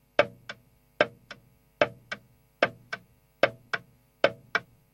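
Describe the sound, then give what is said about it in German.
A pendulum clock ticks steadily, each beat a sharp paired tick-tock repeating about every 0.8 seconds, with no voices or other sounds. “Eine wichtige Erfindung war im 17. Jahrhundert die Pendeluhr.”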